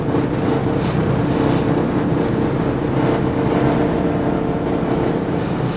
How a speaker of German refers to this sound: gibt Vollgas, um von der Sandbank herunterzukommen.